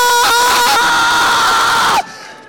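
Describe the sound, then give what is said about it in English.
A church audience roars together, a loud, sustained wall of overlapping shouting and high-pitched cheering voices that holds for about two seconds before cutting off abruptly to near quiet. “I'm asking you as you go through the gate, how does the roar sound?”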